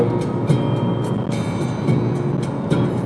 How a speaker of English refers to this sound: Actually, there's a tractor passing on the other side of the road. Ireland must be one of the few European countries where you will get tractors in the morning rush hour.